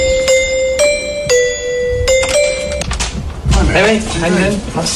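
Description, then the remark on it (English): A musical doorbell chime at Harry and Meghan's home rings out a short tune of about half a dozen clear, ringing notes, a little bit of God Save the Queen, then voices begin talking as the chime fades. “Can I just say the doorbell is the best bit?”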